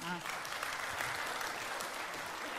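Steady applause from an audience, a dense continuous patter of clapping hands that stays at an even, fairly loud level throughout.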